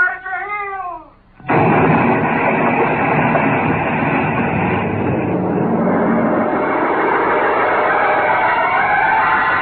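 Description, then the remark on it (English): A brief wavering, warbling tone cuts off, then a spaceship explosion bursts in as a loud, sustained roar that rumbles on steadily for several seconds with no voices. “You cleared the ship just as she exploded.”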